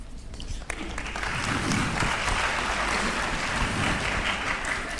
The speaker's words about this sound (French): Vous applaudissez les questions ou les réponses ? Mais les deux, c'est un grand collectif.